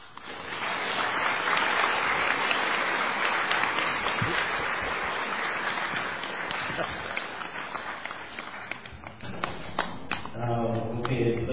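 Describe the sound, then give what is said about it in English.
An audience applauds to thank Ajahn Brahm after his teaching, in a dense, steady wash of many hands clapping for several seconds, thinning slightly toward the end before a man's voice starts speaking over the last of it. “With your big applause, it meant a big thank you to Ajahn Brahm.”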